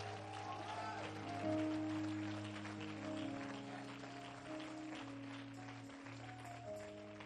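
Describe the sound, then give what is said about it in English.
An audience claps steadily as a hand clap of praise to God, a dense, continuous wash of many hands, with sustained organ-like chords holding underneath for the whole stretch. “Give God a hand clap of praise if you're going to preach with the preacher tonight.”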